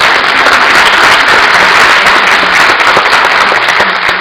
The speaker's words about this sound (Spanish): Regálense un aplauso a ustedes en el día de hoy.